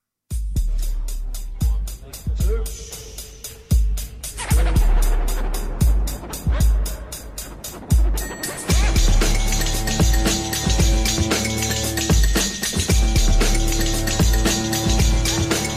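A trip-hop track plays loud and up front: slow, heavy drum thumps over a dark sparse start that thickens halfway through into a dense, layered wash of sustained synth tones. No one talks.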